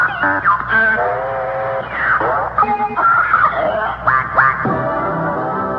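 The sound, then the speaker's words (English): A comic bird call effect of loud, nasal duck-like quacks, repeated in quick squawking bursts over several seconds with no talking, bright, given as 'the bird' on Robin Seymour's show. “Ladies and gentlemen, we're going to give Robin the bird.”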